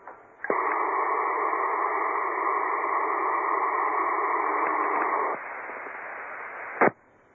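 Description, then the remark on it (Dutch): A faint amateur radio call during the Hunebed ronde net, almost buried in steady static hiss, with a few sustained droning tones running through most of it, then plain hiss and a short squelch burst as it cuts off. “Oeh, dat is heel zwakjes in de ruis”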